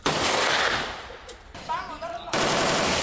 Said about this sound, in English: take a turn at a firing range, shooting targets with war-era weapons like the AK-47, M-16 and the M-60 machine guns, known as the Pig by American troops for its bulky size and high rate of fire.